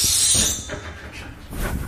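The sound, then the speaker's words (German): A steady rubbing hiss of someone sliding down a long fire pole at a fire station, rough and breathy, with faint squeaky friction rising and falling over two seconds; no voices. “Ja, hör mal, wie das sich anhört, wenn er runterrutscht. Nicht so quietschen lassen.”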